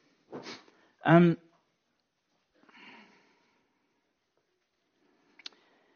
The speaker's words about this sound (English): I'm sorry about the sniffs. It comes when you shed tears.